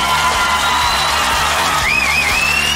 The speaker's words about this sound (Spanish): Y que sigue ese aplauso, que sigue ese aplauso. Porque esto es Papelitos del Público aquí en el Teatro Gran Rex en Argentina.